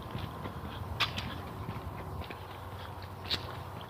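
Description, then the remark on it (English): Two sharp, bright clicks of high heels on a hard floor, about two seconds apart, standing out from a low, steady background rumble with no talking. “Even before you heard her clicking heels.”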